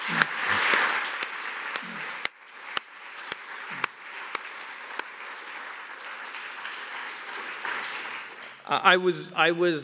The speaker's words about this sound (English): And I think without tremendous contributions from all these people, this wouldn't have happened. So I'd really like to give these people a round of applause for making this happen.